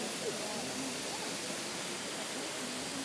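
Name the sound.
river water flowing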